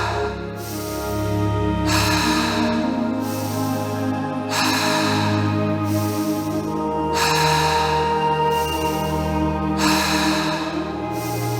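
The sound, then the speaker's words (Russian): Loud rhythmic breathing: about four steady cycles of deep, airy inhales through the nose and exhales through the mouth, each breath rushing in and out at an even pace over a soft, sustained musical background. “Старайтесь попасть в ритм дыхания.”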